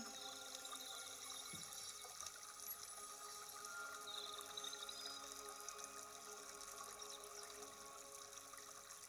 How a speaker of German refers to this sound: Die Wellen kommen zu dir und fließen wieder weg, so wie du einatmest und ausatmest. Beides ist zu einem gleichen Rhythmus geworden.